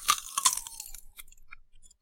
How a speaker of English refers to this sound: takes a single, deliberate bite from the donut. Chews slowly.